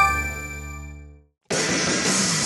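A ringing, bell-like tone fades into a brief silence, then a sudden loud crash of shattering glass bursts in and roars on, the sting that opens a wrestling entrance theme.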